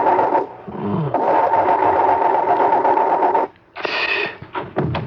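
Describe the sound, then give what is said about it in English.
A car engine drones steadily with a humming tone, chokes and cuts out for a moment, then sputters back in rough, higher-pitched bursts as it struggles and stalls, the car breaking down in the middle of nowhere. “I mean, why's my car stopping?”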